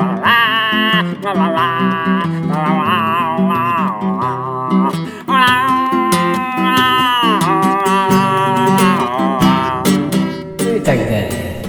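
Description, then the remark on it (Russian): A Yaroslavl bard, the song's author, voices long, wavering meow-like cries imitating a cat in a song about a March cat, with sliding pitch over steady instrumental accompaniment; loud, continuing throughout with brief pauses. “На фестивалях авторской песни это произведение было удостоено нескольких премий за уникальное мяуканье.”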